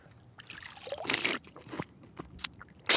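Wet splashing and dribbling of water, with a sputtering burst around the middle as a mouthful of salty seawater is spat out, followed by a few short sharp splashes and a louder hiss at the end.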